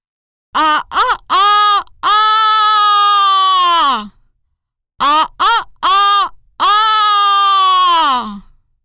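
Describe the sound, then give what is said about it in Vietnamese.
A rooster at a house crows loudly twice, each call made of three short clipped notes followed by a long, drawn-out, high-pitched note that drops off at the end, with a brief silence between the crows. “Lừa hỏi: "Nè, anh gà trống, anh làm gì mà gáy to quá vậy?”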